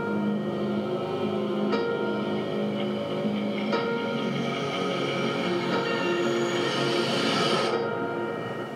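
A train rumbles steadily along the rails, with a dense mechanical drone, faint metallic whining tones and occasional clacks from the wheels. The sound is continuous, with no voices.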